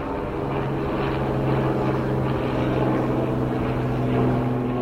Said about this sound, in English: A helicopter won't bother me. They'll never come down and scoop me up. They won't shoot. Oh, look, is that helicopter coming?